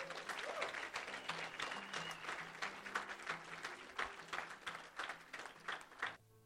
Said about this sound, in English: Clap your hands and bless God.